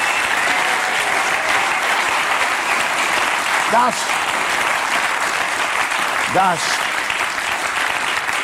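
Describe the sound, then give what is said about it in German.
Sustained audience applause, a dense, steady wash of clapping at an even loudness throughout, with a couple of brief vocal calls rising out of the crowd. “Wir wollen es ja jetzt nicht im bekennenden Applaus ausarten lassen.”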